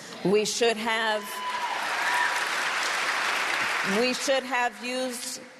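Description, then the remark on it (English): A crowd claps and cheers loudly in a steady, dense wash of applause for several seconds, with a voice heard briefly before and after the ovation. “So you get her school of thought, and you also heard the cheers.”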